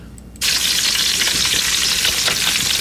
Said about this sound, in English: Let me get my fireside... I still haven't had time to fix this, so I apologize. More bacon sizzling then?